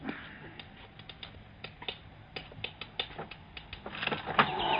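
A window rattles as a bird tries to get in, in quick, uneven bursts of light clicks and knocks, with a few sharper taps. The clatter builds and thickens toward the end over a faint steady background hiss.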